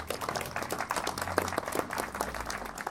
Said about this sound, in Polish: Prosiłbym o wielkie brawa.